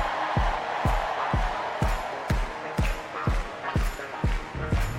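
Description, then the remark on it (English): An audience cheers and screams on cue in a sustained, dense roar, with a steady, punchy bass beat thumping underneath at a regular pace, like a lively concert audience. “Now somebody scream.”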